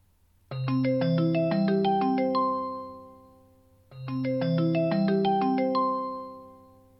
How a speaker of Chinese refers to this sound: 好呀，还不接我电话。